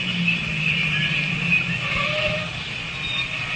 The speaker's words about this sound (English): Okay, Wiener, pull over and park. Leave the engine running.